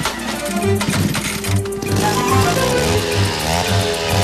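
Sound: chainsaw running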